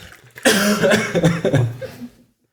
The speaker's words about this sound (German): Ich muss mal husten. Dann huste.